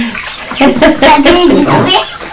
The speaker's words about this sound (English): We can't tell you where for getting water on the floor that time because that was a pure accident, wasn't it?